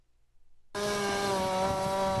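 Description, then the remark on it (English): A chainsaw used by work crews clearing tornado debris south of Toledo, Ohio abruptly starts up and runs at a steady, loud, buzzing whine, its engine note wavering slightly as it bites into wood, with no voices. “Work crews using chainsaws to clear debris from the tornado that tore across a 10-mile-long stretch of land south of Toledo, Ohio, over the weekend.”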